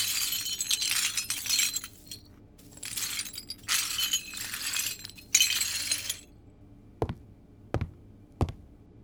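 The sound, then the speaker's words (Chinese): Broken glass shards clink and scrape in several bursts as they are gathered up and cleaned up, followed by three sharp, separate taps near the end. No one speaks. “好的，我马上收拾好，请主人务必在浴缸里待好，以免玻璃划伤手脚。”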